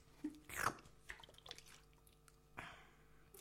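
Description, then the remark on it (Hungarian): Someone takes a sip of a drink: a soft wet slurp, a few small mouth clicks and a gulp, then a brief exhale, all quiet and with no talking. “csak előtte isznék egy kortyot, ha nem probléma.”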